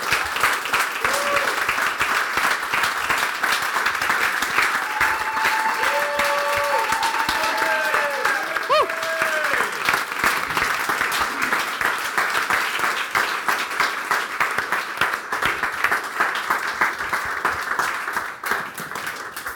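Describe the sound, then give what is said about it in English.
A standing audience applauds steadily for about twenty seconds to welcome people coming up to share, a dense wash of clapping at an even loudness, with a few faint whistles or cheering tones rising above it partway through. “So can we just stand and let's just applaud and welcome these guys just as they come and share their heart with us a little bit.”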